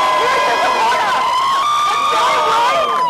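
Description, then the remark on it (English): A protest crowd of thousands marching from Roxbury to the State House against racism and police brutality on May 31st, with Celtics players Marcus Smart and Vincent Poirier among them, cheers loudly and continuously, many overlapping voices shouting and whooping together in a dense, high-pitched roar that stays steady for the whole few seconds. “When thousands of protesters marched from Roxbury to the State House to speak out against racism and police brutality on May 31st, there were a few familiar faces in the crowd.”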